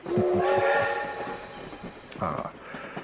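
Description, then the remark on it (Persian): A train pulls in at Charing Cross station with a loud, sustained whistle of layered tones over the rhythmic clatter of wheels on track, then a brief hiss and clank as it slows. “خب هاپکینز، این هم ایستگاه چرینگ کراس.”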